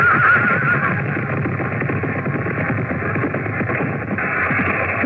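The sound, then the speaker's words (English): A horse whinnies briefly at the start as a knight charges in a joust, its cry rising over a loud, dense wash of clattering commotion and crowd noise that continues steadily throughout. “The king has been thrown from his horse.”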